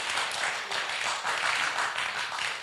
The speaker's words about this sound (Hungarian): És emlékszem, hogy adjunk egy nagy tapsot